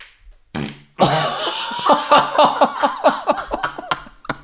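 A long, loud fart, starting with a short burst and then rattling on for several seconds in a rapid, sputtering series of pulses that trail off unevenly.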